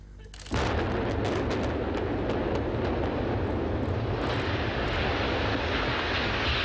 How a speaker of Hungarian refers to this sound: A jövőben uniós támogatással barnamezős fejlesztés valósul meg, ezért kezdték el robbantani az egykori üzemcsarnokokat.